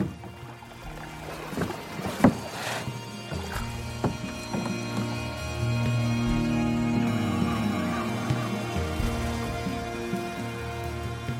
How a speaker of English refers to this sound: we've not been paddling too hard, but we're way ahead of Mark, and I've just turned the boat round